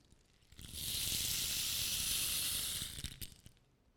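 A strong wind rushes in, a steady breathy hiss that swells for a couple of seconds and then fades, with a few faint knocks and rustles around it and no voices.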